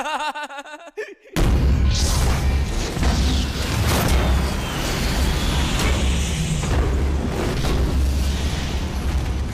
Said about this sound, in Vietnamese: Hai người vừa nói xong, phía nhà máy nước bùng lên một vụ nổ mạnh như trăm ngàn cột sét cùng đánh một chỗ. Cột lửa bốc cao dễ đến chục mét, ánh sáng lóe lên như cháy rừng, bập bùng hung tợn.